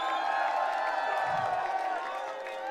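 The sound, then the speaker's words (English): A large crowd at the end of a music night in Mumbai cheers and claps continuously, a dense, steady wall of applause and voices that stays loud throughout, with faint whoops mixed into the roar. “I want to get an extra round of applause, please, for”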